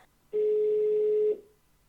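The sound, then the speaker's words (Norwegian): A single steady telephone ringing tone, a clear mid-pitched beep lasting about a second before cutting off, heard alone with no talking, as a call is placed to a hairdresser. “Nå skal jeg ringe en frisør.”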